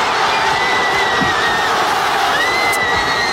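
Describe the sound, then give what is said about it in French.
A loud, sustained roar from a huge crowd of Spanish fans celebrating the winning goal in extra time against Argentina, a 1-0 victory at the 2026 FIFA World Cup, with dense high-pitched screams and whistles layered over a constant wall of noise. “Et je vous propose pour commencer, eh bien, d'écouter l'explosion de joie des Espagnols.”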